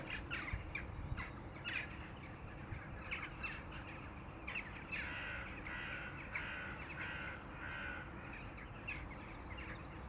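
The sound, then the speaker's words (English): A colony of rooks at a rookery caws without pause, harsh, rasping calls overlapping in a dense, noisy chorus over a steady low rumble, with no voices. “Imagine if you lived next to a rookery.”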